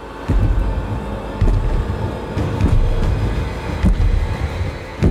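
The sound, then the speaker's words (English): Heavy, booming thumps of the distant, massive footsteps of the giant squirrel Ratatoskr land every second or so over a constant deep rumble, each impact a dull low thud that is felt more than heard, with no voices. “All was silent until finally, Odin the Wanderer heard the distant thumping of massive footsteps.”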